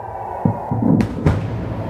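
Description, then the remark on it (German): Several explosions boom and crack in quick succession, a couple of dull thuds followed by two sharper blasts, echoing over a low continuous rumble with no voices: air defense interceptors hitting rockets in midair over Tel Aviv around 3 a.m. “Laute Explosionen waren zu hören, als Geschosse des Luftabwehrsystems Raketen in der Luft trafen.”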